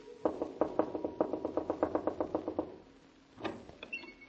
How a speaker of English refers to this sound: Whatever do you mean by knocking on my door when the sign plainly says absolutely no knocking until after 9 o'clock daylight saving moon time?